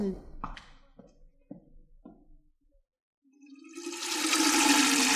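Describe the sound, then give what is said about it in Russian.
After a few short vocal sounds, water gushes loudly and steadily from a barrel into a tin watering can, a broad splashing rush that swells and keeps running to the end. “Вода лилась из бочки в жестяную лейку с таким славным шумом, будто это был маленький водопад.”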